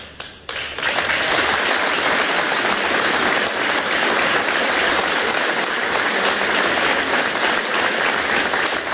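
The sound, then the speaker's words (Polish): An audience breaks into loud, sustained applause, many hands clapping in a dense, steady wash of noise that holds at full strength for the whole stretch after a brief start. “No, cieszę się, że państwo biją brawo, bo widzę, że to jest pogląd dosyć powszechny.”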